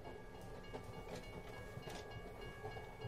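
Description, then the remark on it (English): A train rolls slowly along the tracks, a steady, heavy rumble with faint metallic squealing and soft clunks from the wheels, continuous throughout with no voices. “The train crept past the crossing signal on Concord Road, and he leaned out of the car to scan the small group waiting to get on.”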